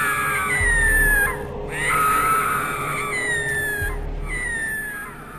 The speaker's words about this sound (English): those screams, those are Democratic screams. This is a scary Halloween for them as they try to cope with, well, a president who has left them high and dry.